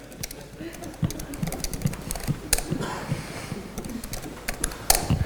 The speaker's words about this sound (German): So, ich schreibe ihm jetzt, alle sind begeistert. Was er schreibt, das Tippen ist besonders einfach, wenn viele Leute dabei zugucken.